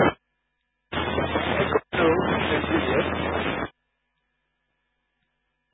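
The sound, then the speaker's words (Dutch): A burst of hissing radio static during an amateur radio net check-in round lasts about three seconds with a brief dropout, a faint, too-weak voice saying something with Juliet Hotel and Groningen barely audible deep beneath the noise, over a low steady hum. “Ik hoor iets met Juliet diep in de ruis.”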